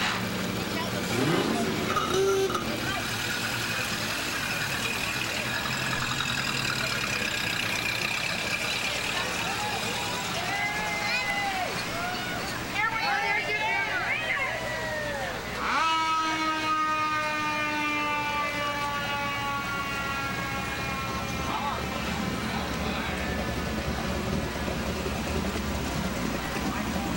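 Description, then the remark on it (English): Busy outdoor car show ambience: a steady low rumble of idling engines with crowd chatter in the background, and a loud sustained horn-like tone blaring partway through. “Well, you guys keep on enjoying the car show.”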